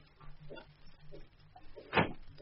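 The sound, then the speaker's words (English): A door clicks shut with one sharp knock near the end, after some soft shuffling and faint handling noises over a quiet background. “Through that door, to your right.”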